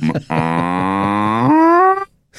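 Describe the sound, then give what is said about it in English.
A single long, loud moo held steady for over a second, then sliding upward in pitch before cutting off, most likely a human voice imitating a cow whose nose is rubbed, the same tone later used for a Gerry Adams impression, with no talk around it. “So so it was like the same tone as a cow.”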